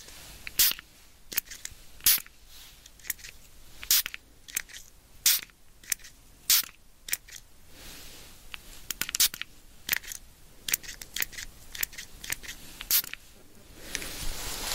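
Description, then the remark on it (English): A spray bottle spritzes over and over, each pump a short, sharp hiss, coming in an uneven run of a dozen or more bursts, with a longer airy hiss at the end. “Now we have two spray bottles.”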